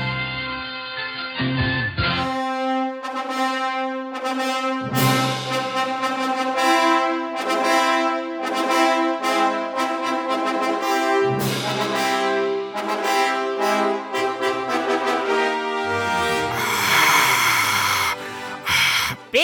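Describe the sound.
A voice imitates heavy, rasping breathing for May the 4th, Star Wars Day, loud, in a long continuous stretch of drawn-out wheezy breaths with a harsh, airy hiss near the end, and no talking.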